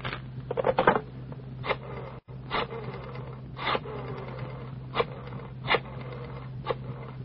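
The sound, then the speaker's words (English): Pages of a telephone book flip as someone looks up a phone number, a run of quick, papery rustles, about eight or nine irregular swishes over a low steady hum, with no talking. “The sound of the flipping pages.”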